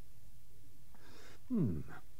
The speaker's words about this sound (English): I'm drinking some tea.